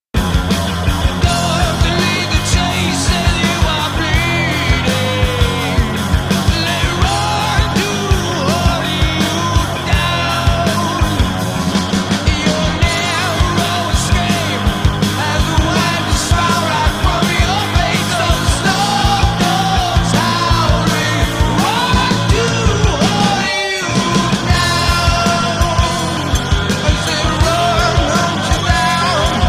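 Loud, dense grunge rock plays throughout, with heavy distorted guitars and driving drums, broken only by a brief cutoff near the end before the band crashes back in.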